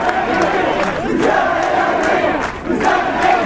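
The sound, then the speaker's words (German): A crowd of protesters in central Tunis chants "The people demand the fall of the finance law" together in loud, rhythmic unison, voices rising and falling in repeated phrases with a brief dip before the chant resumes. “Das Volk fordert den Sturz des Finanzgesetzes, auch das ein Sprechchor der Demonstranten.”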